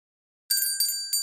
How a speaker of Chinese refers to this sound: 所以接下来，在这个马戏团里，你每一次听到我的铃声，都让身体产生一阵更舒服的快感。